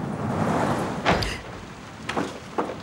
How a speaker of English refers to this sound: The door slams behind her.